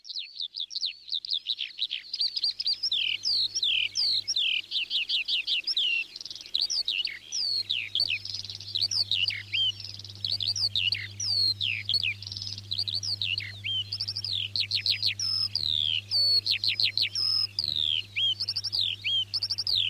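A skylark pours out a long, unbroken stream of rapid, high, twittering warble, loud throughout, with a low steady hum underneath from partway in.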